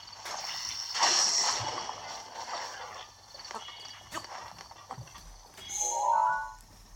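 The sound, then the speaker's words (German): Horses moving, with a patter of hoof clops and a brief whinny-like cry near the end, set against a steady outdoor background hum. “Das sind Pferde.”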